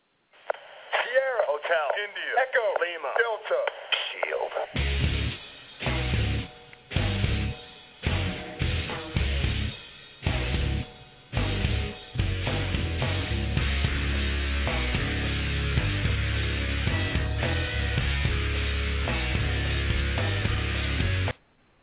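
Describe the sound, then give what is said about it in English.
A loud, bass-heavy entrance theme plays: a swooping intro gives way to sharp stop-start hits with silent gaps, then the full track kicks in and drives steadily to the end. “I'm going to give him a random, threatening theme that makes sense.”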